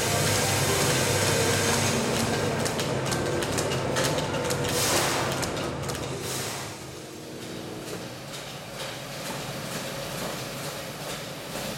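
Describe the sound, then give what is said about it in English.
A vintage Probat gas-fired drum coffee roaster, with a big gas flame beneath it, roasts coffee with a steady, loud mechanical rumble and roar, layered with dense rattling clicks, easing slightly quieter about halfway through. “we're just roasting away on what we call a vintage Probat drum roaster”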